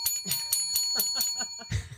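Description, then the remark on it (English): A thin, feeble quiz bell rings in a quick series of light, tinny dings about four times a second, its faint tone hanging underneath. It sounds weak and underwhelming, with no talking. “We need better bells. That just sounds so pathetic.”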